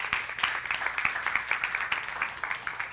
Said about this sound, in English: This weekend, these beautiful people went out to Mexico. If you were there in Mexico, can you stand up if you were there? Give these people a round of applause.